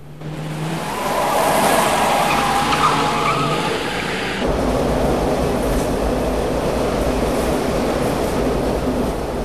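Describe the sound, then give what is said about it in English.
A tram roars along, a loud continuous rumble with a metallic squeal early on, the sound abruptly turning duller and more enclosed partway through as the tram enters a tunnel. No one speaks. “The tram disappears into the tunnel.”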